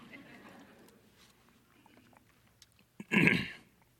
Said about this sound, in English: I'm getting so fired up, I got to have a little sip of water.